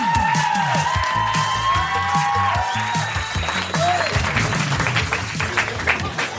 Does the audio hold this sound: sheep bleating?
no